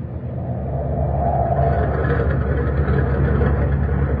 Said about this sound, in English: Well, feel the deck. And the bulkhead. Listen. Listen to the turbines. They've got it wide open.